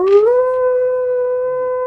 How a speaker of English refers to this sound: One night, as the party slumbers within their dwelling, a piercing howl startles them awake from a deep sleep.